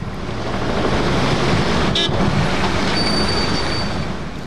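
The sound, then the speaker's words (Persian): Steady roar of street traffic on a road in Kabul, with cars lined up one behind another and not moving, fills the whole stretch, with a short honk around the middle and a longer, sustained car horn toward the end. No one speaks. “پدر جان، این موترا چرا در او طرف سرک پشت در پشت قطار استادستن؟ چرا حرکت نمیکنن؟”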